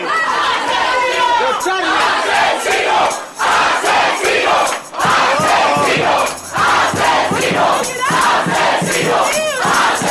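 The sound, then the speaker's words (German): An angry crowd of young demonstrators, who have pushed into a former torture doctor's treatment room to confront him, shouts and yells over one another in a dense, continuous roar of raised voices, with brief dips before the furious clamor surges back, loud throughout. “Als sie dem früheren Folterarzt Auge in Auge gegenüberstehen, können sie ihre Wut kaum noch zügeln.”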